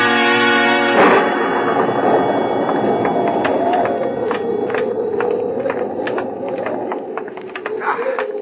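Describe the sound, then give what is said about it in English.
A deep, rolling rumble of thunder from an approaching storm swells after a brief musical tone and carries on steadily, with scattered sharp taps like hooves or footsteps over it. “I think we shall just miss the storm if we hurry.”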